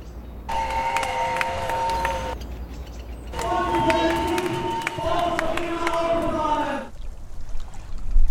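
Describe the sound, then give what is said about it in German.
A street crowd of protesters in Vienna's city centre on 2 July makes a steady roar while shrill horns or whistles sound in two long, loud blasts, the second longer than the first. “plätschernd bleibt, wurden eine Menge Leute am 2. Juli in der Wiener Innenstadt laut.”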